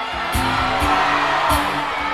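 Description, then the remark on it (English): A live audience loudly yells out their zodiac signs all at once, a dense wash of overlapping shouts and whoops lasting a couple of seconds. “everybody yell out your zodiac sign.”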